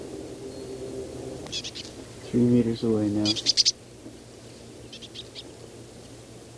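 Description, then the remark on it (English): Soft, brief high-pitched calls of a single foraging bird, one of a pair, in low pine branches, come in short clusters of two or three very low-amplitude notes, faint and intermittent, while a person speaks briefly partway through. “The same bird foraging, making these soft calls.”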